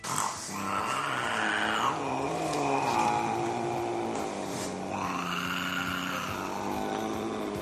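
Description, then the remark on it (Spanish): A nearly black, dark grey cat with yellow eyes lets out a long, continuous growling yowl that swells and dips in pitch like a motorbike engine revving, steady and fairly loud for several seconds with no talking. “Yo digo que suena como la moto, pero el gato no hace nada.”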